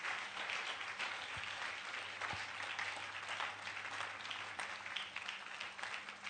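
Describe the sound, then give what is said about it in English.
An audience claps steadily throughout, a dense, continuous crackle of many hands with no clear individual beats, holding at an even, fairly loud level with a low hum beneath. “You can clap those hands in the house.”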